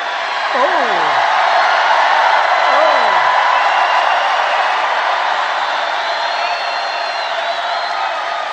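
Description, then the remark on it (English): A large live crowd roars and cheers steadily throughout, dense and loud, with a couple of sharp falling whoops rising above the din early on. “Can you imagine a crowd like this at like 1 o'clock or some ridiculous time in the morning?”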